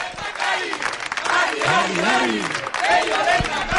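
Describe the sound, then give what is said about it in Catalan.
A crowd of villagers cheers and claps for candidate Pello Ochandiano as he arrives at the polling station on election day in the Basque Country, in a dense, continuous roar, with raised voices calling out over the applause, loud and steady for the whole few seconds. “Moltíssima gent del poble animant-lo.”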